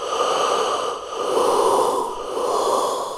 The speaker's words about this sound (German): Bald hörten sie ein Blasen und Schnauben.